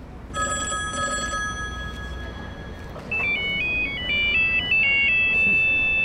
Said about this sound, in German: Das Telefon. Die Erfindung des Telefons war ein enormer Fortschritt für das Fernmeldewesen.